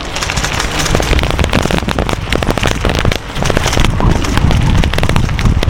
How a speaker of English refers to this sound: You probably mostly hear my bicycle rattle. I just moved to asphalt off of gravel. It's kind of nice.